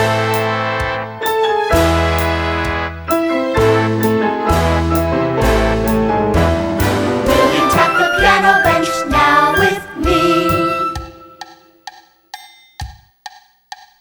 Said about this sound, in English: Will you play some white keys softly, please? Will you play some white keys loudly, please?